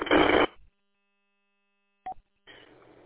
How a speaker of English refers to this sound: My phone just barked at me. First I didn't. I went, what the hell was that? I'm looking all over here trying to figure out what in the hell was going on.